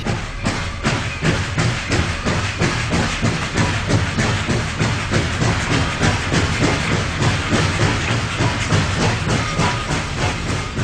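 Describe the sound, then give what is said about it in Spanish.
A train rolls steadily along railway tracks in the Mississippi River delta, its wheels clattering in a fast, regular rhythm over a constant rumble and hiss, loud throughout with no voices. “En este lugar exactamente, hace aproximadamente 140 años, al compás de los golpeteos del ferrocarril, comenzaban a esbozarse los primeros ritmos de lo que hoy llamamos blues.”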